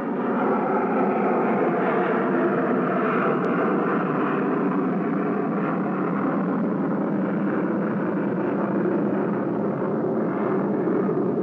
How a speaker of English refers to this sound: I hesitated to read the rest because of the airplanes passing over.